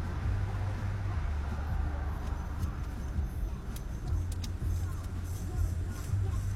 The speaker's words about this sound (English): honestly, I'm in a car. You know?